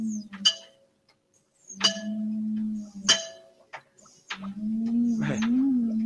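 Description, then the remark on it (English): Sharp glassy taps on a glass jar ring out a few times. Each tap is followed by a low, steady droning hum that swells and wavers, an eerie pulsing tone from an encephalograph amplifying alpha rays in reaction to the knocks. “Now, notice what happens when I tap on the glass jar.”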